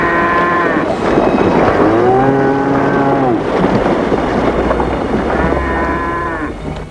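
cow mooing

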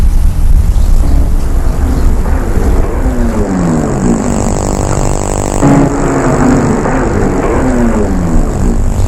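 car driving then stopping

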